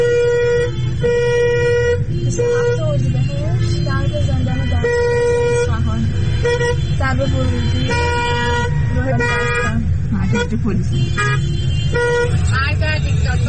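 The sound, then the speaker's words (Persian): Dense, heavy traffic in front of Dastgerd prison in Isfahan, Iran, on a Wednesday night amid crowds and protests, with many car horns honking repeatedly and overlapping, loud and continuous, with engine rumble underneath and voices shouting in the crowd. “آقا ترافیک جلوی زندان دستگرد رو نگاه کنید، تازه هنوز اینجا نرسیده به زندانه.”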